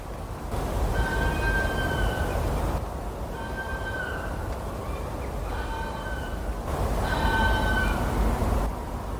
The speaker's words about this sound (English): Urban foxes are doing fairly well in our neighbourhood, and on winter nights, the vixens sometimes announce their visits from the path at the end of the garden.